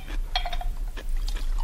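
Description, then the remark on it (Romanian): Liquid is poured into a glass, with a few light glassy clinks and splashy bursts over a low steady hum, and no voices. “Cu permisiunea doamnei, pot să torc?”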